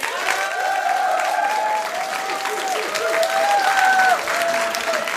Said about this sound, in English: Should we ask the audience? Yeah, that sounds nice. A round of applause for yes, boning her.